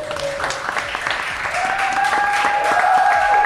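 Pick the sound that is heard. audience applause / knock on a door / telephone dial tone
audience applause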